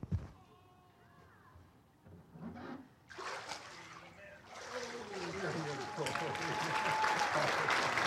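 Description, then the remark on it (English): A burst of water splashing as a woman is dunked and lifted back out during a baptism by immersion, followed by a sustained wash of sloshing water and crowd noise that grows louder; faint voices murmur beforehand. “we are happy today to be able to follow the Lord and baptize you in the name of the Father and of the Son and of the Holy Spirit.”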